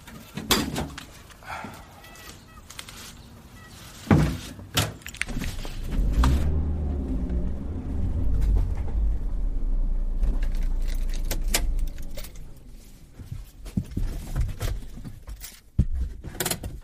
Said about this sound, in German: Das ist dann doch deutlich schwerer als so ohne Gepäck. So, stellen wir mal den Drahtesel in den Wagen hier.